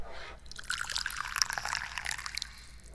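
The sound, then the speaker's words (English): A steady stream of tea pours into a cup for about three seconds, a bright trickling with a splashy texture. No one speaks. “Would you like some tea? Yeah, let's pour tea.”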